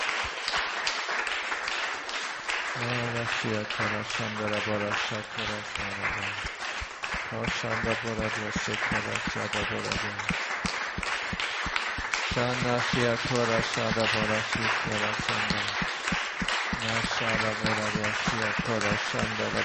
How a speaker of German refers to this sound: Can we appreciate God for what He's doing? Let's praise Him. Lasst uns dem Herrn klatschen für das, was er tut, und ihn preisen.